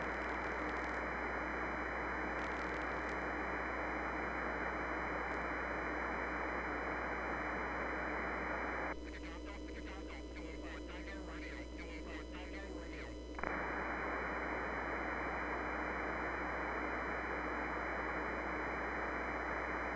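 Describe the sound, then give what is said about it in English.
Loud, steady hiss of amateur radio static on the amateur band during a radio contest fills the whole stretch, briefly shifting midway into a garbled, warbling band of interference before the harsh rushing noise returns. “Contest, Kilo 5, Lima, Lima, Lima, K5LLL, Echo Mike 9, with a real high noise level.”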